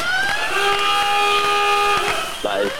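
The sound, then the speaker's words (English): A 'best thing of 2016' game show buzzer being pushed sounds a loud, steady, brassy tone for about a second and a half, followed shortly by a brief warbling swoop. “You just push your best thing of 2016 buzzer.”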